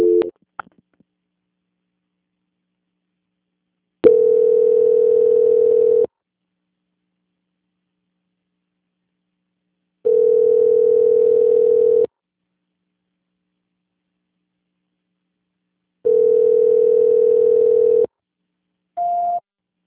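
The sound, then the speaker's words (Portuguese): A steady, low-pitched telephone ringback tone sounds three times during a call transfer, each about two seconds long and separated by several seconds of silence, followed by a short higher beep at the end. “Transferência.”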